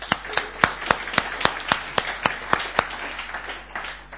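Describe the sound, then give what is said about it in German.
An audience applauds the worship team, a steady wash of many hands with sharper claps standing out in a regular, quick rhythm, moderately loud throughout and gradually easing toward the end. “Die haben zum allerersten Mal in dieser Konstellation miteinander Musik gemacht und ich möchte euch einen ganz herzlichen Applaus geben.”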